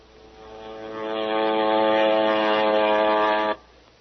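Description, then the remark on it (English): A propeller airplane drones overhead, its steady buzzing hum swelling louder over a second or so, holding strong, then cutting off abruptly. No voices accompany it. “Send it over by airplane.”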